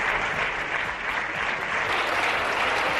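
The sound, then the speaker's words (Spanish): Sustained applause from the Popular Party bench in the Spanish parliament for Pablo Casado, a dense steady wash of many hands clapping at once with no individual claps standing out, holding an even loudness throughout with no speech. “Aplausos de la bancada popular a Pablo Casado y mensaje para navegantes, sobre todo aquellos que han abandonado su barco.”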